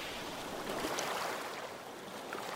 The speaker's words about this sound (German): Vor dir liegt das Meer. Die Wellen kommen und gehen.